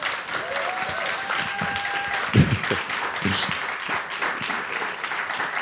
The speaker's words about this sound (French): Merci à vous. Vous pouvez toi. Les applaudir.